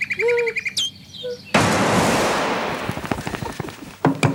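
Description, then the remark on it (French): Clear whistled nightingale song with rising and falling notes for about a second and a half, abruptly cut off by a loud rushing burst of noise that fades into scattered crackles and pops. “J'ai horreur du chant du rossignol.”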